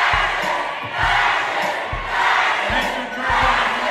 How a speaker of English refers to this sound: They had a good beat to it. You just heard the sound of protesters yelling fascist from the galleries of Tennessee's House of Representatives Monday night as Republican lawmakers moved to expel three of their Democratic colleagues